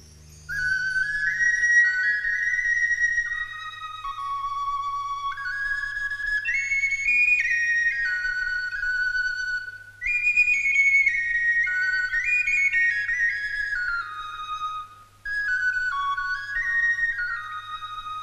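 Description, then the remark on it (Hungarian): A person whistles an imitation of a pelican bird singing: a long, bright, warbling melody in flowing phrases of rising and falling notes, with brief pauses, over a faint steady low hum. “És a palota tornácán meghallotta a pelikán madár hangját.”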